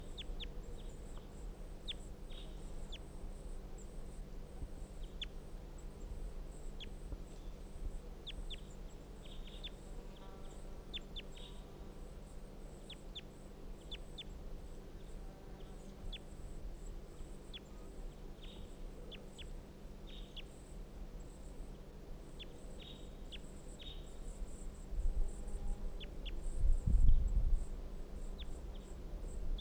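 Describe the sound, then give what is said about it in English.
Calls from wild bird 350, responding, recur throughout over steady low background noise: short chirps and clucking notes, some harmonic, with a louder burst of calling near the end. “because the wild bird 350 is responding.”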